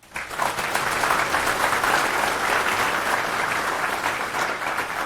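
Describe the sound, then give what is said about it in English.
Steady audience applause rises quickly and holds as a dense, even patter of many hands clapping for about five seconds, with no voices standing out; a conference dev room audience applauding to welcome a speaker's talk. “Which I'm very curious to hear about because I'm also dealing with very old code, so a round of applause.”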